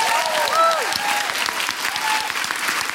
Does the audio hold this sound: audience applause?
yes